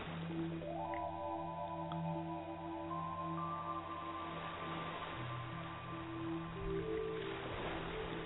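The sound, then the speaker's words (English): Soft, steady ocean waves wash continuously beneath calm, sustained ambient music with long held tones and slowly shifting notes. No one speaks; the sound stays gentle and even throughout. “Focus on the waves, on the music, and my voice.”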